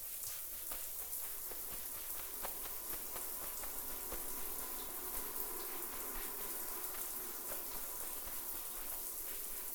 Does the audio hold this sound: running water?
yes